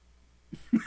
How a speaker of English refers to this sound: Yeah, I have a cough.